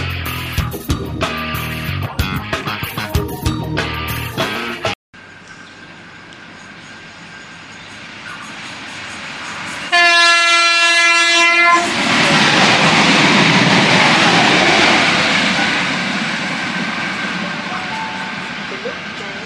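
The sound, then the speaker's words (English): A train approaches platform 1 at Dudley Park station in Adelaide with a building rumble, blasts its horn once for about two seconds, then thunders straight through at speed without stopping in a loud, sustained rush that only slowly begins to fade. “The next train on platform 1 does not stop here.”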